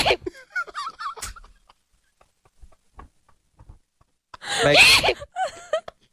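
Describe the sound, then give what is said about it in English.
A man's loud, theatrical sneeze bursts out after a quiet pause: a harsh, noisy blast with a squealing, voiced edge. A shorter vocal outburst comes before it, and brief yelps trail after. “There's no way in life that that could be his real sneeze.”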